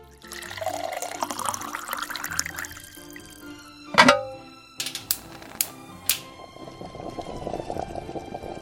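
Broth pours steadily into a pot holding onion, pork, kimchi and seasoning sauce for braised pork kimchi, for a few seconds with a gurgling, rising tone, followed by one loud clunk, a few sharp clicks, and then a soft continuous hiss. No one speaks.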